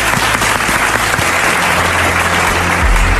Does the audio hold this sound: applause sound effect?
yes